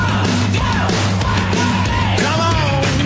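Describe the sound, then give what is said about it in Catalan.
A loud, sustained shout from the Antena 3 TV show Splash rings out over a steady low hum and busy background noise, sounding like a yell from a broadcast recording. “Com van anar els tambors? Ui, el crit i tot.”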